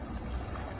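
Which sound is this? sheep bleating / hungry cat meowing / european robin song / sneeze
sneeze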